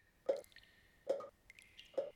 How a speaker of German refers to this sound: Plötzlich saß sie ganz still. Für einen Moment hörte man nur die Tropfen, die von oben herabfielen.